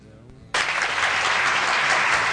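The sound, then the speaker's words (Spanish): An applause sound effect played by the show's operator: a burst of crowd applause starts abruptly after a brief quiet moment, then continues as steady, dense clapping at full volume until the end. “¿tienes unos aplausos ahí?”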